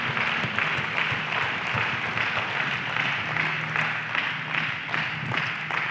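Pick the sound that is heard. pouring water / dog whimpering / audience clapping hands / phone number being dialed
audience clapping hands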